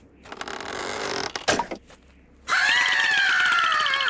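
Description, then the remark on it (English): A person imitates the long, shrill screech of a woman's face on a two-faced staff, loud, sustained for over a second after a few breathy, scraping vocal noises. “He takes out the staff that has two faces on them, one of an old man and one of a, quote, beautiful woman who screeches, I said, like that.”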